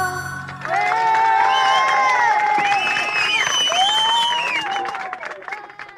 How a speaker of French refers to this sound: Applaudissements pour L'une chante, l'autre pas d'Agnès Varda, un film de 77 sur l'avancée des droits des femmes.